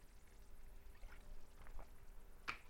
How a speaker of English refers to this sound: So I'm sipping on some pure water here.